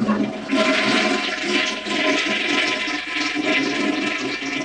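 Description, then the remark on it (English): A toilet flushes in a bathroom with a loud rushing, gurgling surge of water that swells after a brief start and churns steadily for several seconds, with no voices present. “We join our hero Reefer Dog and his police handler, Officer Cluster Kemper, using the bathroom.”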